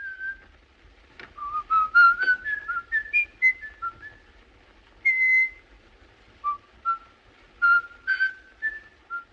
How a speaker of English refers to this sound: It's Peer Gynt in The Hall of the Mountain King. That's how we know the serial killer is around, because we hear him whistling it.